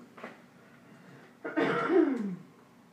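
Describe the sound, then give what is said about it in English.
A short throaty sound followed by a louder, drawn-out cough with a strained, rasping tail, with no talking around it. The cough seems forced, faked to get out of school. “get in there with your mother and knock the cough that I told you. The Miss School cough doesn't work anymore.”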